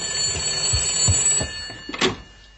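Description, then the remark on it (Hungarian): A telephone bell rings in a quick, steady, clear ringing pattern as a call is transferred to it, followed by a few soft knocks and clicks as it stops. “Árpi, vedd fel a telefont,”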